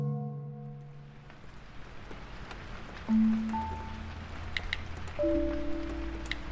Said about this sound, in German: Seit 4 Tagen regnet es.